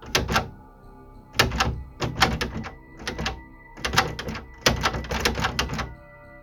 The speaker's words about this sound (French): J'ai fermé ma porte à clé, et juste avant de me retourner vers le salon, la poignée de la porte d'entrée a bougé violemment.